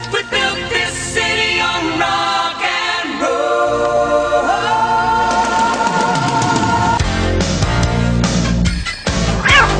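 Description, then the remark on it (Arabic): Cats meow in a drawn-out, sing-song way, their pitched, gliding cries rising and falling like a melody. The sound is loud and continuous, with layered voices overlapping and no speech. “ونعم، تستطيع القطط الغناء أيضا.”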